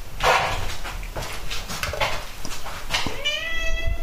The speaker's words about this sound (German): Mein Kater ist gerade auf dem Kühlschrank.